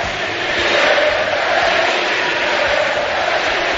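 A loud, sustained roar from an arena crowd in Granada for basketball player Felipe Reyes during a Spain national team game, with dense applause and shouting blending into a steady wash of noise that holds for several seconds without a break.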